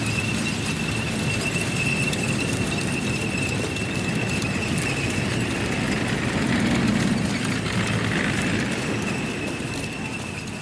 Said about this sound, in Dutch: Daar komen ze. In een lange, ononderbroken rij. Tanks en panzerwagens. Geen hakenkruisen, maar witte sterren.